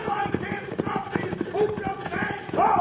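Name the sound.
horses' hooves clip-clopping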